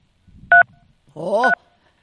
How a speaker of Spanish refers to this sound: yo creo que estás apretando las teclas del celular, porque sí, sigue clic, clic, clic, clic. Sí, eso era, perdón.